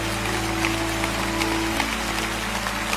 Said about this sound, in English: Come on, Lakewood, let's clap them in. They're still standing all over.